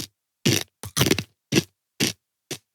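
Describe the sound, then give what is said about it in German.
Crunchy chewing on an almond, heard as a string of about seven sharp, crackly bites spaced irregularly, with brief silences between them and no talking. “Das ist ein großer Mandel-Podcast.”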